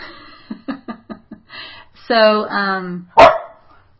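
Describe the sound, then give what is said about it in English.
A small dog makes a string of short, low rumbling growls, then a longer whining growl, followed by one sharp, loud bark. “Did you guys hear the little growl? Yeah, now there's the bark.”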